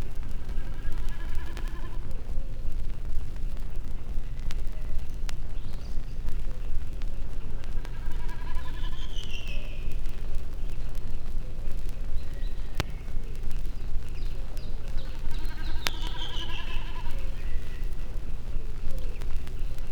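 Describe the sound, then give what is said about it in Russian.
A common snipe drums several times high in a blue sky, each dive a wavering, bleating hum of vibrating tail feathers, like a lamb bleating. The bursts come every few seconds over a steady low outdoor rumble. “словно барашек блеет. Это высоко в голубом небе торгует бекас.”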